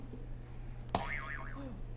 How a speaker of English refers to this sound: Can you press the buzzer for me?